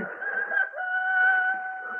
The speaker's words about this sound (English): the cock crew.